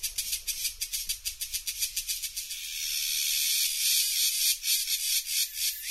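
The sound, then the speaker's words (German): Crickets in South America chirp loudly in rapid, high-pitched pulses that briefly merge into a steady trill before breaking back into rhythmic chirps. No voices are heard. “Und so können sich Grillen in Südamerika anhören.”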